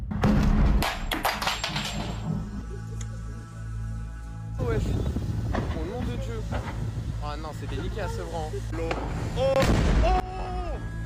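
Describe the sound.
Explosions from a video montage of various explosions published by Kim.com: a rapid cluster of loud, sharp explosive bangs opens, followed by a steady low rumble, more scattered booms and excited voices layered on top.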